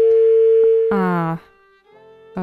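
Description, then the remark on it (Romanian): A steady, humming telephone dial tone drones on the line after the caller hung up, briefly cut across by a short burst of voice, then continues more quietly before another voice starts at the end. “Ascultătorul nostru a renunțat la apel.”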